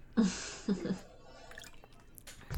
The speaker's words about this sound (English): Oh, let me take a sip of water real quick.